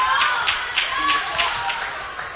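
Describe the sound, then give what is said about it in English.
A large Strasburg home crowd roars and claps steadily in the final seconds of a game, a dense wash of cheering voices and scattered applause holding at a lively level throughout, with no single voice standing out. “And their crowd feels it, too. They've been very vocal here tonight. You can hear them.”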